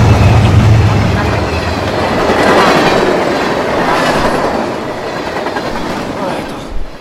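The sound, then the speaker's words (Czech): A train rushes past, a loud, steady roar with rapid clattering of wheels over the rails, fading slightly toward the end. “Zatracený zase vlak!”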